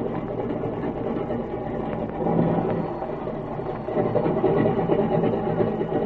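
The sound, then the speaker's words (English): A new aircraft engine idles and warms up before the plane taxis down the field, in a steady, rumbling drone, swelling slightly in loudness partway through and again near the end, with no voices. “I'll warm her up a few seconds.”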